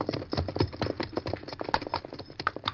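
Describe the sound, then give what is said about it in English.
Horses' hooves clatter in a quick, steady rhythm, a dense run of clip-clopping hoofbeats as riders gallop away toward a ridge, clear with no voices over them. “I'll take this trail up the ridge here and ride to meet you.”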